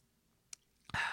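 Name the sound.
person sipping a drink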